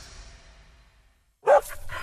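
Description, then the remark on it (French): A dog barks loudly, two or three sharp barks in quick succession, after a second of quiet fading noise. “Royal est un chien idéal. Le maître de Royal, lui, est trop génial. Il s'assure que son chien respecte la quiétude du voisinage.”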